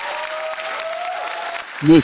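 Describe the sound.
Steady, dense audience applause fills the whole stretch, a broad continuous clatter of many hands clapping, with a faint tone running underneath and a short voiced sound breaking in at the very end.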